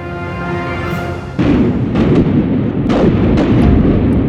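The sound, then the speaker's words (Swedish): Heavy cannon fire booms repeatedly as Swedish forces bombard the walls of Bohus fortress, a deep roar breaking in after a tonal drone, followed by several sharp blasts over a dense, rumbling low-end wash of bombardment. “18 dagar senare börjar man beskjuta murarna.”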